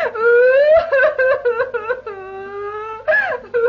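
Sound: woman crying and wailing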